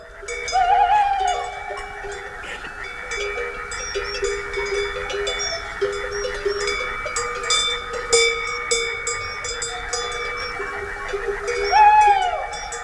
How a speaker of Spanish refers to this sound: Y una noche, serían las 3 o las 4, la alta noche, estaríamos de madrugada, estaba grabando con el rebaño recogido, las ovejas, las vacas tranquilas en el redil, un carabo ululando.